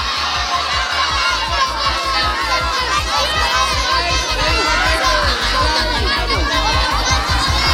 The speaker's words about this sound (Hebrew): אני לא יכול לשמוע כי כולם צועקים